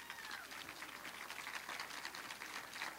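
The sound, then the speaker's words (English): A crowd claps steadily to welcome a performer onto the stage, a dense, even crackle of many hands that holds at a constant moderate level for the full three seconds, with no talking over it. “clap her onto the stage.”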